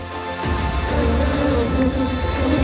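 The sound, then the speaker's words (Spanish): A dense, continuous buzzing of a giant honeybee hive of about 100,000 bees, hidden for over 7 years in the roof of a building in the centre of Granada, swells in after a brief pause and holds steady, a thick droning hum with no voices over it. “imagínate estar en tu casa y escuchar permanentemente todo el tiempo este zumbido”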